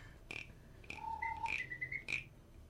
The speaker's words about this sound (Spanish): Es una ranita, de madera, tal parece. Y la parte de la espalda es lo que hace el sonidito. Que a la vez suena como una ranita.